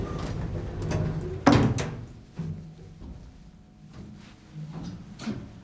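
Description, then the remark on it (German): Sliding doors close with one sharp, solid thud, followed by a few softer clunks and knocks over a low, steady rumbling hum. “Türen schließen.”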